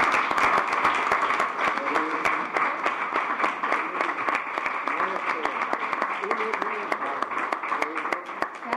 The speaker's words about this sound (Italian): E di fare un applauso ai miei.